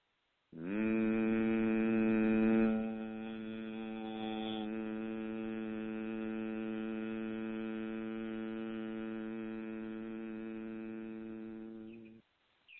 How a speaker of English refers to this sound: And on the next inhale, I invite you to pucker your lips, purse your lips, like you're sucking from a straw, and exhaling a humming sound.